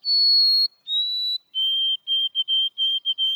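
A white-throated sparrow song: two long, pure whistled notes, the second slightly lower, then a run of quick repeated notes on one lower pitch, clear and alone.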